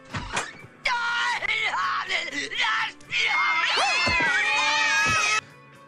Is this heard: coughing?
no